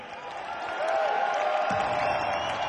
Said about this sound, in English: We cannot thank you guys enough for coming out. It really means a lot. One big round of applause for the guys who talk.